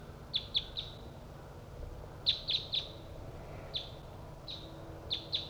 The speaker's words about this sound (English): Decoy and Bird 3-4 responding to wild birds that are coming from the south. I'm pointed towards the wild birds.